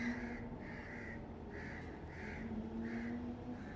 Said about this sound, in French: Et revoilà les corbeaux. Les Romains disaient que les corneilles vivaient plus longtemps que les hommes.